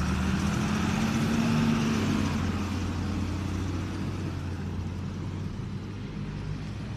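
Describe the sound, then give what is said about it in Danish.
Steady rumble of busy road traffic, with cars and heavier vehicles passing, one engine briefly rising in pitch before the broad noise settles into a continuous wash. “Ja, det skal være, vi skal rundt om hjørnet, bare lige fordi der virker som om, der er utrolig meget trafikal aktivitet her omkring os lige på det her sted.”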